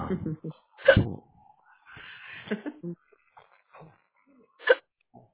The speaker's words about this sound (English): Somebody's got the hiccups. That's me.